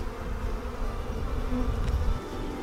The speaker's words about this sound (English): Thank you guys for coming along with me as we catch this gorgeous swarm.